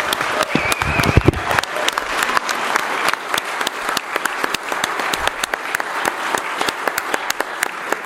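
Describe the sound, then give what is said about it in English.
Sustained applause in a legislative chamber for the pages who served that week, a dense crackle of many hands clapping steadily for about eight seconds at an even loudness, with a brief murmur of voices near the start. “Let's have a round of applause for our amazing pages.”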